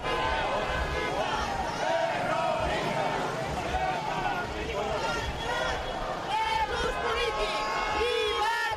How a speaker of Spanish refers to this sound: Gritos que se mezclaban con el habitual ruido del tráfico de Madrid.